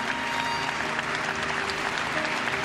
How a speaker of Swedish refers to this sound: Sen byter de plats. En symbolisk handling. Applåderna tar inte slut. Juan Carlos nickar och tar emot dem i flera minuter.